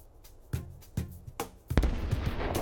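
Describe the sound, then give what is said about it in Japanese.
A few sharp explosive bangs spaced about half a second apart, then a louder, heavier blast that trails into a sustained rumbling crackle, like fireworks; bombs strapped on and set off by Maple as a marker signal. “あれはメープル本人が爆弾くくりつけてはぜてるだけ。”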